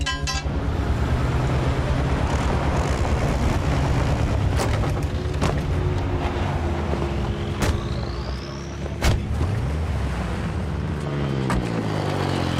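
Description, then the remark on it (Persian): An airplane engine being tested before a flight roars steadily throughout, a loud droning rumble with layered tones, broken by a few sharp knocks and a brief rising whine partway through. “خیلی خب، همینجا خوبه، باید موتورش رو امتحان کنم.”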